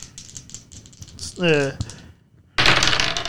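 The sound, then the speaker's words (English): Dice clatter and rattle across a hard tabletop, starting with scattered light clicks, then a louder, dense burst of tumbling at the end. A brief voice sounds in the middle. “Why are you rolling them again?”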